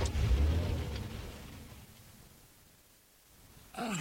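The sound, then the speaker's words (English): A car engine rumbles loudly, then steadily fades as the vehicle pulls away, leaving near quiet before a brief voice-like sound at the very end. “Anyway, we'd better get back to my car.”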